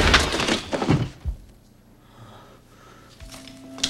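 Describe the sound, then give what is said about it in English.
A man rattles the knob of a locked door and kicks it open: a few heavy, loud wooden thuds and a splintering crack in the first second, followed by a quieter stretch with a faint, steady low hum. “He runs around a corner to the locked door and rattles the knob. He kicks it open.”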